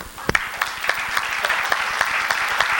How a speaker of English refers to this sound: Is that right? Can I clap my hands?